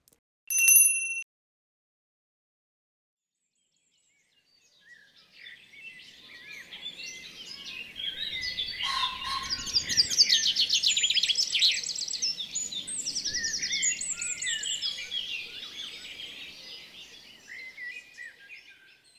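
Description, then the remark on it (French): A short bell-like ding, a few seconds of silence, then a dense, lively chorus of many birds chirping over a soft, fluttering rush that swells and lingers to the end. “Et ce jour-là, on entendait dans le ciel un bruit doux, un bruit d'ailes, d'oiseaux, de souffle et de vent.”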